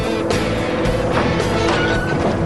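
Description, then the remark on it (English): Heavy industrial machinery grinds and rumbles steadily while a Larry car lifts a metal oven lid with a magnet, with a thin mechanical whine over the din and a few scraping, clanking surges. No voices. “The Larry car picks up the metal lid with a magnet.”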